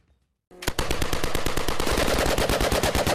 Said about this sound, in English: The sound of Ukrainian air defense units fighting an increased wave of drones as Russia intensifies its assault ahead of a meeting with the United States.